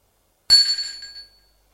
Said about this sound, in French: Gilbert appuie sur la sonnette.